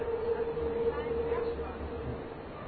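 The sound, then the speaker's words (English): Steady rumble inside a moving metro car on the line through Fellstrasse, Sternschanze and Schlump stations, with a thin, sustained motor whine that fades partway through, and indistinct chatter from other passengers blending into the background. “And then we switch, and we get on the other train and go to where we're going.”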